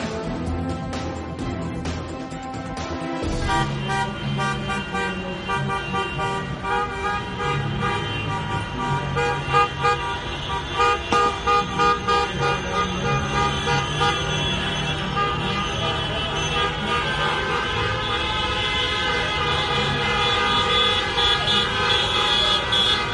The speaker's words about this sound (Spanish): Ayer el sonido, el clamor a golpe de claxon, así son las manifestaciones en esta era de pandemia de miles de españoles convocados por la plataforma Más Plurales, que se manifestaron este domingo desde sus turismos en más de 30 ciudades españolas